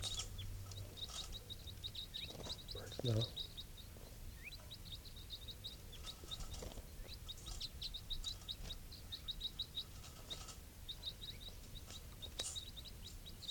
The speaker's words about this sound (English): Recording, these are the calls of one of the wild birds.